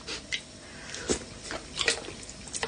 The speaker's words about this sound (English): What you do is then you just unplug the kettle and then you use the kettle as a sort of bowl and serve the Monster Munch soup straight into your mouth with a spoon.